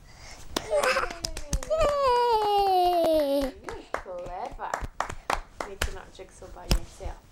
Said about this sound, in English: See? Give yourself a clap. Well done.